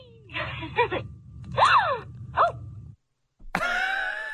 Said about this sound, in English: That's a delighted gasp too. Like that doll likes this.